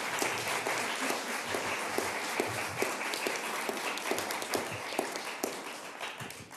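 A crowd applauds survivor advocates steadily for several seconds, a dense, even wash of many hands clapping with occasional sharper individual claps standing out, sustained at a fairly constant loudness.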